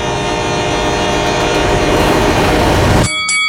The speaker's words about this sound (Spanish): En una esquina tenemos a un rival de 175 libras y en la otra un tren de peso pesado con 6.000 toneladas.